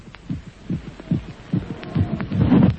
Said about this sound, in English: that wasn't a native beating the tom-tom, that was my heart